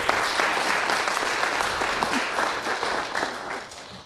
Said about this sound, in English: Thank you. Let's clap it up. That was excellent.